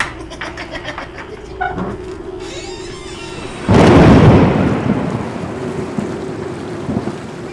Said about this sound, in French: Il pleut !